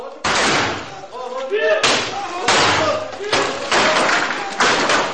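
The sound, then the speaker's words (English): Members of Al Shabaab smash a shrine to pieces in Kismayo, southern Somalia: heavy blows crash into the masonry again and again, about five loud impacts at uneven intervals, with men's voices calling out between the strikes. “This is how members of Al Shabaab treat the shrines of those they opposed.”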